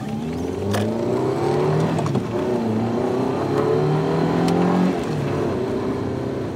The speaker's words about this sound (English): Her car was in the station car park. It was an Audi TT. Nice car, I said. She drove fast. Very fast.